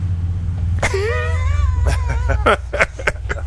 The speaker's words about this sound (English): An extra noisy truck.